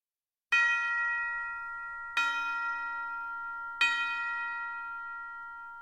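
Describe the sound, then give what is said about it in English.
Three clear, resonant bell strikes ring out at an even, unhurried pace, each with a bright metallic tone that lingers and slowly fades into the next. No voices are present. “Bells will be ringing, the glad, glad news.”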